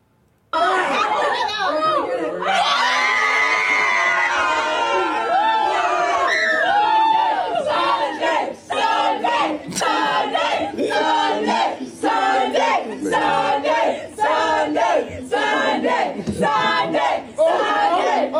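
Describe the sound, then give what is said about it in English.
A loud crowd cheers and shouts continuously as a sign is changed from Saturday to Sunday past midnight, voices overlapping in excited yelling and whooping that swells and pulses for the whole stretch, energetic. “What were they cheering about? They were changing the sign from Saturday to Sunday.”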